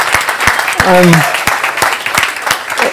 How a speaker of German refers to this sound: Genau, dicker Applaus.